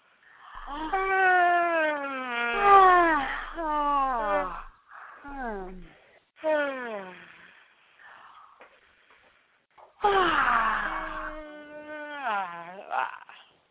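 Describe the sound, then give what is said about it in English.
Three loud, drawn-out exaggerated yawns made while tapping, as part of a guided exercise, each a voiced groan sliding up and down in pitch, with short pauses between; no words are spoken. “And keep tapping, and I want you to yawn 3 times. If you can yawn really loud, that's really good, and I'm going to yawn with you so that it won't be, you know, embarrassing to make lots of crazy noises.”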